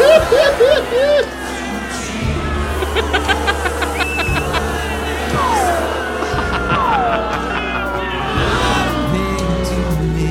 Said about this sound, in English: Oh, there's a lot of crowd now.